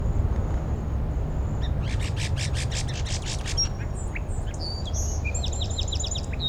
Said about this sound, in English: Song Sparrow right behind 5-7.